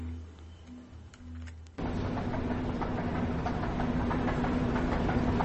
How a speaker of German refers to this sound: Eine U-Bahn-Station aus den 70er Jahren. Sie ist üblicherweise wenig frequentiert, da man hier in keine andere U-Bahn-Linie umsteigen kann. Der Boden und die Verkleidung der Wände sind aus glattem Stein, was zu einer langen Nachhallzeit an diesem Ort